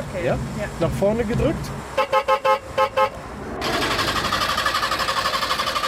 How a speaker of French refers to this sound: Un son de casserole, du carton dans la carrosserie, pollution optimale, vitesse de croisière 40 km/h. Voici la Trabant, le fleuron technologique de la défunte République démocratique allemande.